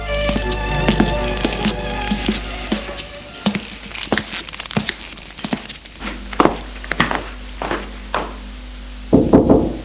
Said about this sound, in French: L'après-midi, au retour de ses cours, il va frapper à la porte de la chambre de sa sœur.